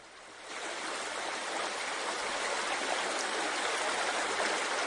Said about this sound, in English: Babbling brook.